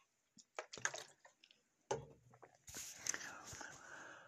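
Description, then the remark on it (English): Someone takes a swig of water: a few soft wet clicks and smacks, then a longer breathy, hissing slurp and swallow, fairly quiet, with no talking. “Let's take a little swig of water here.”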